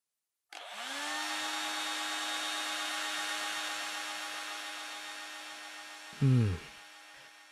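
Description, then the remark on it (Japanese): A hair dryer clicks on and blows steadily as someone's hair is being dried: a loud, even whoosh of air over a humming motor that climbs in pitch as it spins up, with a brief deeper rumble near the end. “じゃあ今から乾かすから、ドライヤーの風、暑かったら行ってね。”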